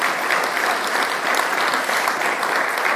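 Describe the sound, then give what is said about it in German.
An audience applauds the Advent decorations put together by the decoration team, a dense wash of many hands clapping at an even loudness throughout, with no break or fading. “Das ist mal einen Applaus wert.”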